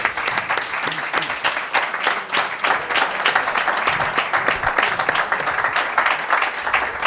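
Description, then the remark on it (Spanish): A crowd applauds steadily, dense overlapping claps sustained at a fairly loud, even level for several seconds, without any speech on top; applause for the president of the Real as the mayor of San Sebastián says goodbye to him. “un aplauso para el presidente.”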